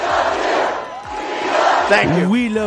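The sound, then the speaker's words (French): A large crowd of Donald Trump supporters at a rally chants "We love you" loudly in unison, a dense, continuous roar of many voices, with a few individual shouts rising above it toward the end. “We love you, répondent les supporters de Donald Trump.”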